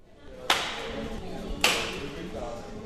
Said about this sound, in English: The sound of staple guns echoes inside a large, dusty warehouse in South Fairbanks. 4-foot-long wooden trail markers are spread out between sawhorses all over the place.